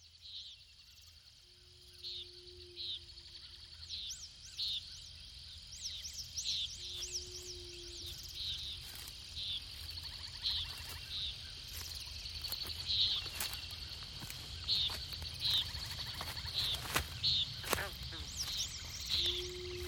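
Insects chirp in a steady, repeating rhythm, shrill high bursts like crickets with a buzzing edge, over a low hum that swells in and out.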